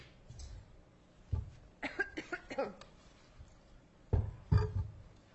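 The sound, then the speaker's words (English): Several dry coughs from a person wearing a mask come in bursts: a single cough, then a rapid cluster of four or five, a pause, and two more harsh coughs at the end, with no talking. “This mask makes me cough.”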